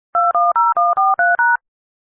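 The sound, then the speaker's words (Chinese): Seven quick telephone keypad tones entering a passcode to join a financial conference call, pressed in a steady, even rhythm, each a short two-note beep, loud, followed by silence. No one speaks. “请输入参会密码并以井号键结束。”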